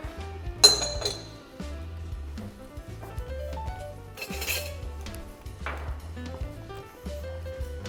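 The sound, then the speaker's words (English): Crushed ice clinks and rattles in a glass of bourbon in two bright, crackly bursts, with a steady musical backing playing underneath and no one talking. “Well, crushed ice, you got your bourbon. It's like a bourbon slushy.”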